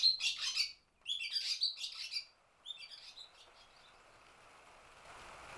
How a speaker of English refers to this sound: I think I've got a good sound of the feeding chicks. Oh, the rain. Oh, feeding and rain. Oh, I like that.